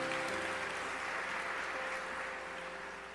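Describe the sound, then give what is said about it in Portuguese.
A church audience applauds God steadily during a service, a dense wash of clapping that fades slightly over three seconds, with sustained low keyboard tones held underneath. “Quiser pode aplaudir, porque é santo aquele que nos chamou.”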